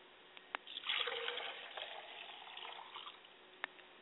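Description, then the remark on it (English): Water pours steadily into a glass for about two seconds as a libation for a father's spirit, a soft splashing trickle, framed by a couple of faint clicks before and after, with no talking. “I pour a glass of water for my father's spirit and I say Ashe.”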